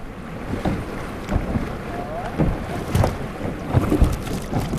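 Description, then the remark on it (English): Kayaks carrying a group of science teachers churn through mild class 2 river rapids, with steady rushing white water, irregular paddle splashes and thumps, and wind buffeting the microphone. “This group of science teachers safely navigates the white water.”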